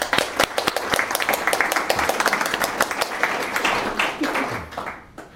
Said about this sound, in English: So guys, a round of applause for them.